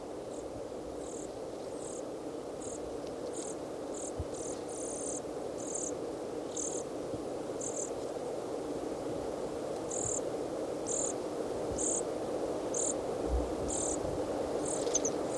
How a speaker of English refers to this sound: juvenile dorsalis junco, and at least one adult. Juvenile is making sort of a buzzy call as it follows the adult around and begs from it.